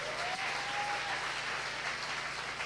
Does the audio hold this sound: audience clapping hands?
yes